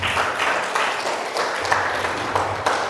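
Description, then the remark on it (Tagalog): A church audience applauds the Lord after a prayer, a dense wash of many hands clapping at an even, sustained loudness with no voices standing out. “Sa po the best na palakpak sa ating Panginoon.”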